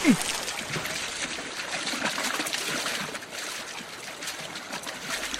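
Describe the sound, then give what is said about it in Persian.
Steady rushing water flows continuously, a dense hiss of churning current near a waterfall, holding an even loudness throughout without pause. “خیلی خوب، یادتون باشه برای اینکه به سمت آبشار کشیده نشیم باید به سمت بالا شنا کنیم.”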